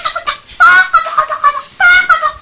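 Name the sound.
rooster clucking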